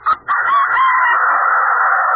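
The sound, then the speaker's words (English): A single loud, drawn-out crow from a human voice mimicking a rooster, starting with a short rough burst and then holding a long, strained, wavering note. “Well, that was a rooster. You sound That's like... a rooster, folks.”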